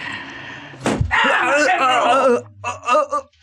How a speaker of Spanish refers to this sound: Un latigazo en espalda lo hace reaccionar. Es como un choque violento que paraliza los músculos de su espalda y voltea sorprendido y temeroso viendo al guardia fuete en mano.